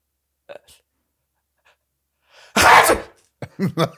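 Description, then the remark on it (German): A person fakes a single loud sneeze: a short inhaled buildup, then a burst of noisy breath, followed by a few quick voiced syllables afterward. “Aber ich will mal von dir kurz deinen Fake-Nieser jetzt.”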